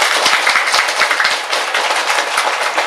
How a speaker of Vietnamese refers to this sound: Thêm một tràng vỗ tay thật lớn nữa nào. Cảm ơn quý vị.